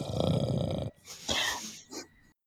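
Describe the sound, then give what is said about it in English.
A voice imitates a character named Becro sleeping deeply with a breathing mask on: one long, loud rasping inhale followed by a few shorter, hissing breathy exhales, then the sound stops. “I'm sorry, he's got a breathing mask on.”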